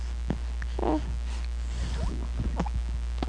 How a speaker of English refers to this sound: Ooh, that was a little kind of burp.